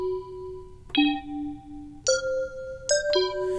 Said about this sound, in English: Plus, we got these wacky bells.